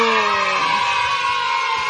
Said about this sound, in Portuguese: Você aniversariante da semana que está aqui comigo! Aplausos pra você! Sucesso!